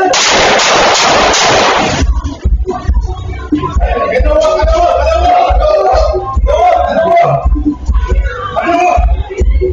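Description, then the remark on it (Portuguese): A loud burst of four gunshots, fired in rapid succession by a police officer lying on the floor during a robbery, fills the first two seconds, then gives way to excited voices talking over a steady low hum. “O policial, que estava numa mesa, deita no chão e, no momento de distração do suspeito, efetua 4 disparos.”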